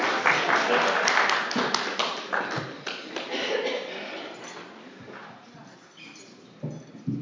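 An audience applauds with a dense wash of overlapping claps, loud at first and gradually thinning out over several seconds, with a few scattered claps near the end.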